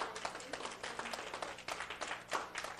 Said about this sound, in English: How many veterans we got here? Praise the Lord. A little round of applause for our veterans.